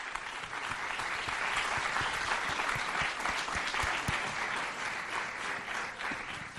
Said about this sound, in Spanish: que sube ahora mismo a este escenario con el aplauso del público asistente.